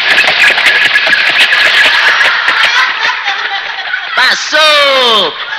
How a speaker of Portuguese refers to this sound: Atenção, está se aproximando do nosso pelanca. Vamos ouvir o ruído da sua possante máquina esfalfa pneu. Vai passar, amigo ouvinte.